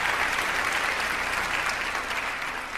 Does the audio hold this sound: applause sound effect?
yes